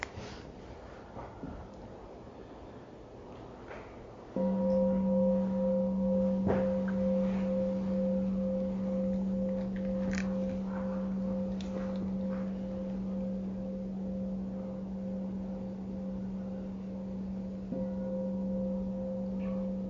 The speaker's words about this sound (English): So we'll start with the bell.